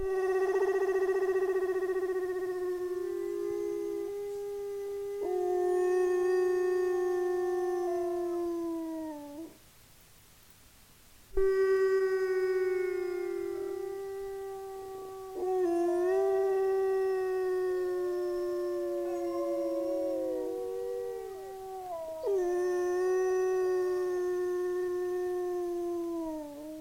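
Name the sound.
dog howling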